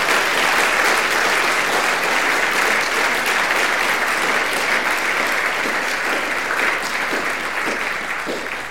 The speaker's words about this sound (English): I guess you heard the applause? I did, thank you. Well, that's what they think of you in Exeter.